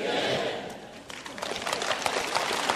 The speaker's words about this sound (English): Listen, if that's the best clap you can give, let me just say to you, you have never fought with these things before.